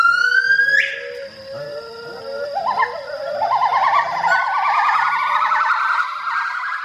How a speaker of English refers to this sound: Well, that is the call of one of the world's rarest animals, the Hainan gibbon, recorded by a conservation project, the Kadoorie Farm and Botanic Garden in Hong Kong.